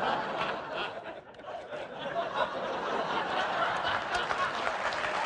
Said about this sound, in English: Really? All right. I'm actually disappointed in you for clapping at that.